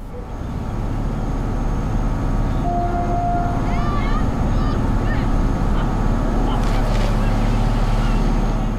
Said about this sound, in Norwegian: Nachdem das Schiff abgelegt hat, das auch uns wieder nach Budø bringt, tutet es in sicherem Abstand einmal kurz und auf dieses Zeichen hin springen alle Kinder vom hohen Steg ins tiefe, kalte Meer.